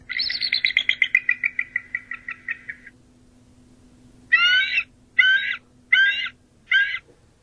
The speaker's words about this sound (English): Great. I've seen some eagles. Let's take a listen to an eagle.